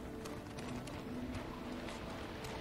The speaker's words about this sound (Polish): A ten ptak ciągle tu lata, słuchajcie, to czyli to nie było jeszcze to chyba.